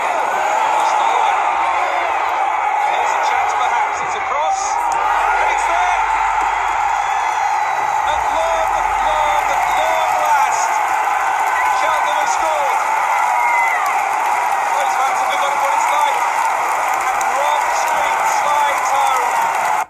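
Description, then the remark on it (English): A football crowd roars and cheers after Cheltenham score a goal, Rob Street's 39th-minute strike in League One, a loud, sustained wall of shouting and whooping that holds steady for the whole stretch, with scattered clapping mixed in. “The sweet if unfamiliar sound of Cheltenham scoring a goal there.”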